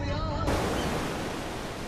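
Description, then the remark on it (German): A steady, loud rush of ocean surf washing onto the shore, continuous, swelling brighter after a brief moment with no voices present. “Meer, so weit das Auge reicht.”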